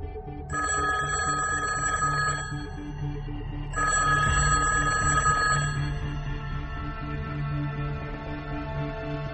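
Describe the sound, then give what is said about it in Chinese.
A telephone rings in two long bursts with a short gap between them, loud, over a low steady hum with no talking: a colleague's call to FBI China counterintelligence chief I.C. Smith one day in September 1982. “史密斯接到同事的一通电话。”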